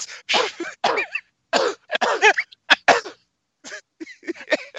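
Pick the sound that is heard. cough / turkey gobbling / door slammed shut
cough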